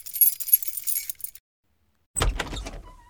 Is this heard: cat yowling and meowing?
no